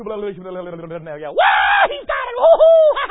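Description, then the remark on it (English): A preacher's voice imitates frenzied screaming: a strained, drawn-out vocal tone breaks into a loud, harsh shriek, followed by shrill, wavering yelps. “and they run around hopping and screaming and jumping, and that fellow in his heart knows, man, that wasn't no more real than a billy goat.”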